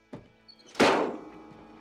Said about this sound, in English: Earl slams the bonnet of the truck.